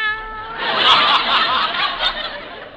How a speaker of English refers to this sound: Well, I had to keep them over here in a separate cage, away from the white mice. They were pretty upset. Cats do that to mice, as a rule. Well, here they are. Meow. Meow.